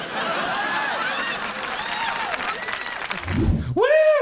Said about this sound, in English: Woo! Love that hooting.